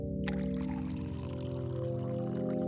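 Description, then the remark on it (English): Hot water pours steadily into a mug over scooped instant coffee grounds, a continuous splashing gurgle with a ringing tone as the cup fills, with no voices. “As the hot water mixed with the hastily scooped instant coffee grounds at the bottom of the mug, their powers combined to create a cup of much-needed caffeine.”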